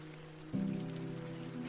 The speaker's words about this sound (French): Nous sommes le 19 avril 1906, rue Kellermann, dans le 13e arrondissement de Paris. C'est ici que vit la famille Curie. Irène a 9 ans. Elle observe la pluie frapper les carreaux de l'appartement pendant que sa petite sœur, Ève, joue à côté d'elle.